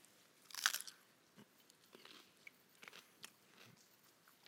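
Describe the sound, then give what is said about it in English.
A loud crunch of someone biting into crisp greens dipped in salt water, followed by several softer chewing crunches at irregular intervals, with no one talking. “So what they would do is they would dip the greens in salt water and take and eat.”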